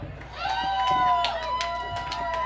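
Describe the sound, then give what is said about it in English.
Audience applause with scattered, irregular claps under steady crowd noise and high, wavering cheers or whoops that run through the whole stretch at a fairly even loudness. “A bigger round of applause, please.”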